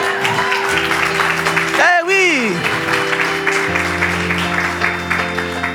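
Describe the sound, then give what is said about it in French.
An audience claps steadily and densely throughout, with sustained keyboard tones underneath and a brief voice swooping up and down in the middle. “Quand tu applaudis, applaudis bien.”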